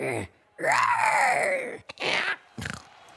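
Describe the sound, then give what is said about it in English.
A person does a loud, raspy vocal imitation of a velociraptor roar: a long groaning screech that rises then falls, followed by two shorter rough bursts and a brief trailing growl. “Now it's time for the Velociraptor. Are you ready? Ready. Give us your best roar.”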